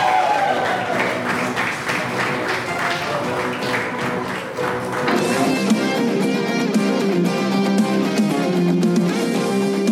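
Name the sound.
applause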